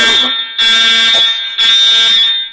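A fire alarm being tested blares loudly in repeated harsh, shrill bursts, about three pulses with brief gaps, with no one talking over it.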